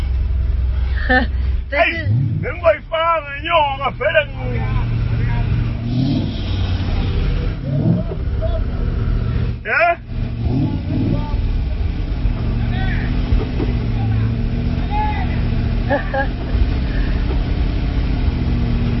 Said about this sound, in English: And this is a V6 engine. V8. V8 engine. Okay. It's a V8. It's a V8.